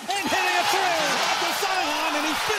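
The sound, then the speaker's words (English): A basketball crowd erupts in loud, sustained cheering, many voices swelling together into a long collective "oh!" that rises and falls, with scattered shouts over a dense roar. “I like how it's not just cheering. It's clearly everyone going, oh!”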